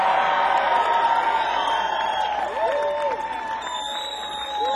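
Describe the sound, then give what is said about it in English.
A large audience stands and applauds steadily, a dense roar of clapping with cheers and whoops rising above it, loud and sustained for the whole stretch. “I think anybody that'll stand up and applaud like that deserves one more.”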